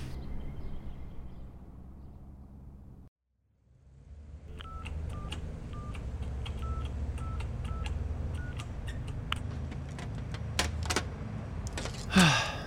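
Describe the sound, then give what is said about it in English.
Buttons on a burner phone's keypad are pressed one after another, each press giving a short tone beep in an uneven rhythm, over low background rumble, ending with a brief clatter. “I need a burner phone.”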